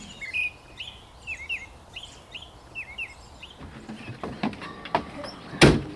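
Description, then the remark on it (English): Birds sing in a spring dawn chorus, with repeated chirping phrases over a steady outdoor hiss for the first few seconds. A few sharp knocks and clattering sounds follow near the end. “So in the spring, you go out for a dawn walk and the sound of birdsong is so overwhelming.”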